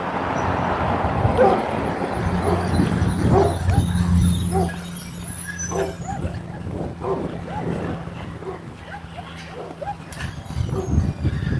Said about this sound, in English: Good morning. Dogs. We have dogs. Dogs are out.